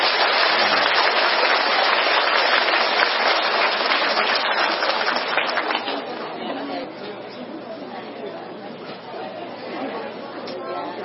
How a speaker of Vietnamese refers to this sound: Xin quý vị cho một tràng pháo tay.